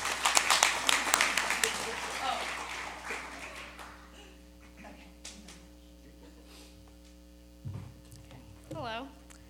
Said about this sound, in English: And so will you please join me in giving them a round of applause, because they are amazing.